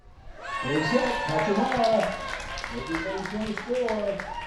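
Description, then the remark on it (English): A crowd cheers at a Challenger League baseball game on a Tuesday evening at the Ruth and Dennis Heindel Memorial Field in Dubois, many voices shouting and whooping together in a loud, steady swell that lasts the whole time, with some high-pitched calls rising above the rest. “That cheer is typical for a Tuesday evening at the Ruth and Dennis Heindel Memorial Field in Dubois.”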